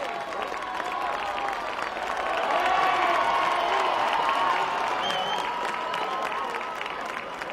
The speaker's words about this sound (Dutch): En dan staat men in het parlement terecht en barst er een spontaan applaus los.